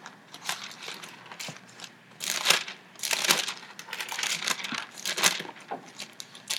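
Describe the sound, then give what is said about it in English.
Thin Bible pages being flipped by two people turning to Ephesians 4, a series of crisp, papery swishes and crinkles at an irregular pace, with louder bursts every second or so and no voices. “So we're both flipping there.”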